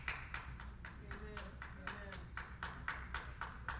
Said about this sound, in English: Thank you for that one applause.